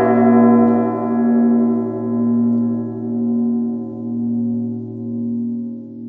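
A deep church bell rings on, its rich humming tone hanging in the air and slowly fading with a gentle, rhythmic waver roughly once a second. No one speaks.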